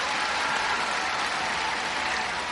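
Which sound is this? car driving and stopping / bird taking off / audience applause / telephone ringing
audience applause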